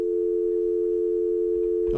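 A steady, unbroken telephone dial tone hums for about two seconds after a listener's call to the radio station Radio Sedaye Zendegi drops, then cuts off as a voice starts speaking at the very end.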